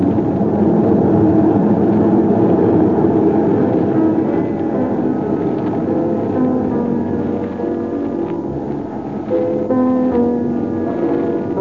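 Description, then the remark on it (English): A steady, loud engine drone fills the cocktail lounge of a pressurized airliner cabin in flight at 23,000 feet, a continuous low rumble with a faint tonal hum layered on top, never letting up. “Overawed at sitting in a modern lounge and sipping a cocktail at 23,000 feet.”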